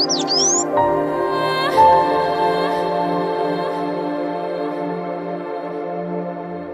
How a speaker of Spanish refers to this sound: Desde ese día, se puede encontrar en la selva, sobre todo en los naranjales, un bello pájaro azul que vuela cantando Chogui, Chogui.